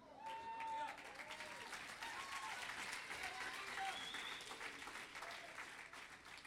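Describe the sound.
Lukewarm audience applause, a steady patter of clapping that stays fairly even and subdued throughout, with faint murmuring voices mixed in underneath.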